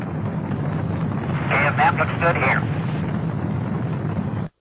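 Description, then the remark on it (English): A quick run of three or four warbling electronic beeps, NASA communication beeps with someone in outer space, rises midway through a steady, loud rumbling hiss that fills the whole recording. “We knew it was a NASA beep communication with somebody in outer space, but we didn't know, you know, what mission.”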